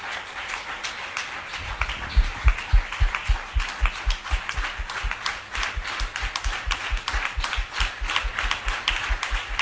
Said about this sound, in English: Amen. Clap your hands. All right.